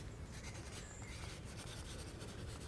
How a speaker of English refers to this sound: May I just make a note of it? Would you like a pencil? Very kind.